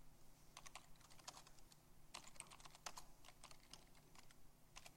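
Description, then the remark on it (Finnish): Rapid clicking of keys on a computer keyboard, typing into a program running in a command-line shell that reacts to key presses. The typing comes in irregular bursts of crisp taps with brief pauses between them, with no voices. “Ja nyt mulla on semmoinen ohjelma, joka reagoi näppäimistön painalluksiin.”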